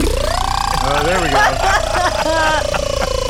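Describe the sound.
A voice imitates Tinkerbell, the official Mark in the Morning helicopter, with a steady, buzzing hum that rises in pitch at the start and holds, broken by choppy rhythmic pulses for about three seconds.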